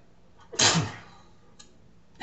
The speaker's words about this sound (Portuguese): Tava lá, pronto para espirrar.